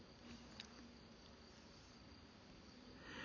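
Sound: cricket chirping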